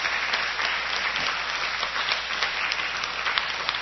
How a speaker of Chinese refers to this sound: 谢谢各位老师精彩的演说啊、哦！那我们再次热烈掌声，谢谢这五位老师，谢谢谢谢哈，好，谢谢各位老师。